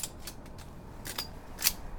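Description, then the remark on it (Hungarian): A rifle being unloaded right after firing, during a film shoot in a trench: a quick series of sharp metallic clicks and clacks from the action, with the loudest snap near the end and no voices. “Aki lőtt, az egyből ürít is.”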